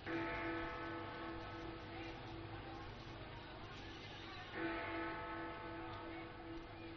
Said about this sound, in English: Did you hear Big Ben chime? How many times? Listen again.